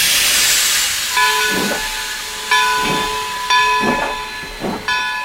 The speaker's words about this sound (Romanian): Am aflat că alt tren, ăsta din fața noastră, urmează să plece spre Arad Brașov.